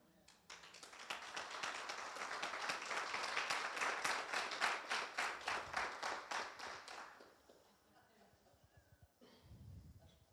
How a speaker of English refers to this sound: We don't have a lot of rules at Next Level Church. We do have one, though, and that is when one person claps, everyone just needs to clap.